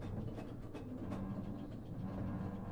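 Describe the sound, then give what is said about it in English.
A mine train ride rumbles steadily along its rails, a dense, continuous low roar broken by brief clattering clicks, fairly loud, with no talking. “Oh, we went on the mine train.”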